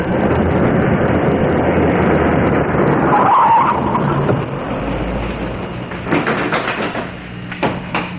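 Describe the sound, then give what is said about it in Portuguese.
A yellow taxi's engine roars loudly as a criminal flees in it, with a brief high tyre squeal as it skids and speeds off, leaving a fading rumble and a few sharp knocks. “O criminoso fugiu de carro.”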